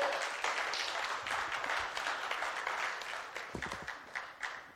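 A church audience breaks into steady applause for a welcomed 70-year-old man, the church's oldest member, many hands clapping in a dense, continuous patter that holds at an even level throughout before tapering slightly at the end.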